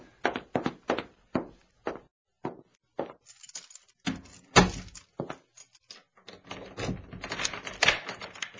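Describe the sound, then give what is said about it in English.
A series of sharp knocks and clacks, then a heavy thud as a door shuts, followed by metallic rattling and clicking as bolts and a lock are worked to lock it up again. “Oh, let me get it locked up again right away.”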